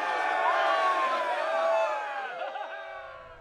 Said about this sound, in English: He beamed and raised both his raw, bloodied fists, bouncing triumphantly to the crowd's hoots and cheers.